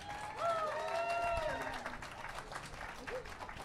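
An audience applauds a band after its performance with dense, steady clapping throughout, while a bright, sustained cheer or whoop rises over the clapping in the first second and a half.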